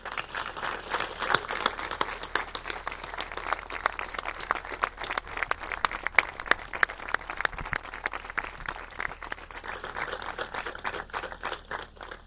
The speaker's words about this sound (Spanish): A los custodios de la Virgen que están por ahí detrás, para los que me gustaría pedirles a todos un fuerte aplauso.